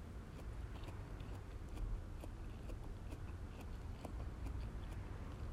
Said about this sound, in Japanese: ご飯食べながらね、もぐもぐ話したらダメですね。なら食べます。